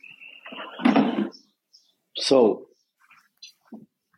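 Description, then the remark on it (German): A door closes with a rattling clunk followed by a second creaky thud as the speaker goes inside, with a few faint chirps of birds waking up in the background. “ich kann mal reingehen. Warte eine Sekunde. Ich versuche mal reinzugehen.”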